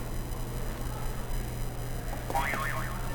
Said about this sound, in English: Can you press another buzzer?